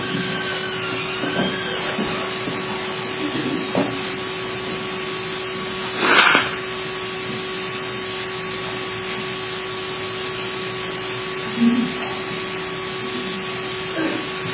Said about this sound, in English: But you'll pardon me for blowing my nose, but it is that time of year when it seems to be a problem.